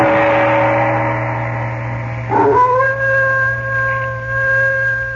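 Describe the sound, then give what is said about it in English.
A dog howls in long, sustained, mournful tones that waver and shift pitch midway, over a steady low hum, in a dark, silent village, with no one speaking. “No sound can be heard but the ominous howling of a dog.”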